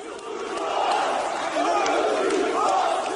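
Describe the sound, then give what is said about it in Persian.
Hundreds of protesters shout slogans together after a Turkish police raid on the Zaman newspaper office in Istanbul, Turkey, chanting that the media will not be silenced; a dense, steady roar of many voices with rhythmic rising chants repeating every second or so, loud throughout. “صدها تن پس از حمله پلیس ترکیه بر دفتر روزنامه زمان در استانبول نعره می کشیدند که رسانه ها خاموش نخواهند ماند.”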